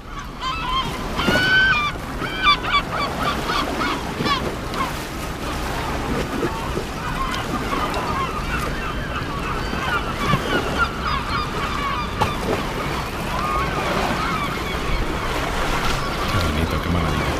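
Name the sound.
gulls calling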